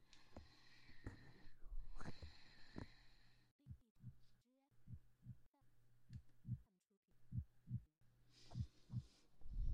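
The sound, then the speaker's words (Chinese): A steady heartbeat of soft, muffled low thumps at an even pace, with a brief patch of hissy rustling near the start; a person's heartbeat being checked to see if it is normal. “试一下你的心跳，看看是否正常。”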